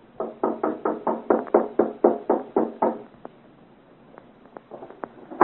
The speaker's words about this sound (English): Go on. Knock, Bois Laurier. As you say, Chevalier. I have not heard. Knock again.